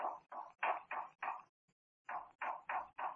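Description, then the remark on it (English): Muffled knocking on a door in two groups, five evenly spaced knocks, a brief pause, then four more at the same steady rhythm, with no voices. “That knocking, almost as if someone were trying to signal.”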